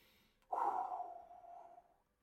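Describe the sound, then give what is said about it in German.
A single deep, audible breath, drawn in and let out in a long, steady sigh lasting about a second and a half, fairly loud with no talking, as a man at the throwing spot focuses before throwing a dagger at a target. “Fokussiert sich, versucht sich zu fokussieren, atmet tief durch.”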